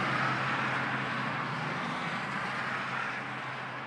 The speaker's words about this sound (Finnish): Tämä paikka on moottoritien varrella.